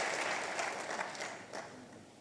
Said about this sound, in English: It's in Jesus' name we pray. Amen. Clap your hands and sit. Hallelujah. Hallelujah.